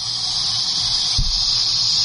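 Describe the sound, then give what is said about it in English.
A loud, steady high-pitched hissing squeal, the sound of a quesadilla, used as a cell phone ringtone, continuous for about two seconds, with a brief low thump partway through. “Yeah, so listen to this. Here's my new cell phone ring.”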